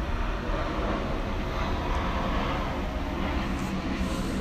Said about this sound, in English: And oh my God, another fucking plane! Are you serious? I want to look back on the podcast and see if y'all can hear that.